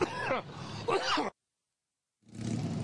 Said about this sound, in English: As he coughs there.